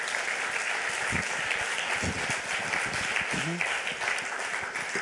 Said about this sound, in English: So guys, give the Rocket Badge guys a huge round of applause.